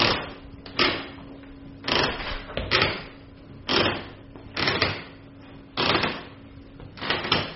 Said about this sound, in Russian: Вот давайте помолчим. Давайте послушаем, как скрипят половицы в кабинете. Слышите?